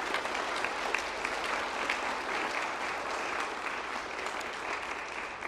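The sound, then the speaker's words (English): Steady applause from an audience for a sixth-grade group called the faith force, honoured for their hard work this year; a dense, even patter of many hands clapping at constant loudness with no voices over it. “Let's go ahead and give them all a round of applause for their hard work this year.”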